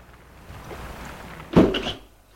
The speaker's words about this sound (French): Il entend des clics de la porte.